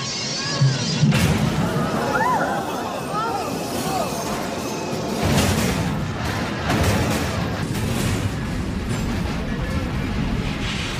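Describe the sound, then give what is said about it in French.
A train at full speed slams into a car stalled on the railway track, sending the car flying: a loud, drawn-out crash of heavy booming impacts and grinding, with shrill metallic screeches, the noise surging again a few seconds later before slowly settling. “La voiture fait un vol plané, le choc est redoutable, le bruit intense.”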